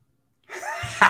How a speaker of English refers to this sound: I had to cough.